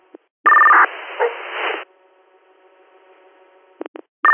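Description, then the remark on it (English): A short burst of fire dispatch pager alert tones, sent to the Troopsburg fire department for a medical alarm in the town of Troopsburg, comes through a crackly radio channel, then hissing static, a faint steady hum, and a few sharp radio clicks near the end. “we're good on tones.”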